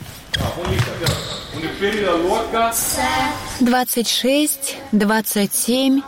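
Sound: ball bouncing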